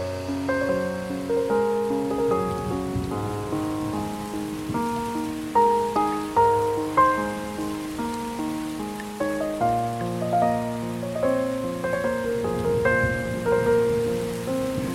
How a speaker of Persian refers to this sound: صدای بارون یه حال داغون